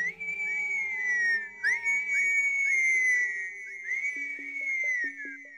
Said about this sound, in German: Gandalf pfiff.